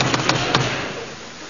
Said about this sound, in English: Knock on the door.